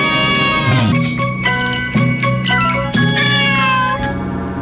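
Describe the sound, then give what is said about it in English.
Cats from different countries meow repeatedly in a loud chorus, their drawn-out, sliding cries overlapping against a steady rhythmic backing with a beat roughly every second. “Putty tats from different countries.”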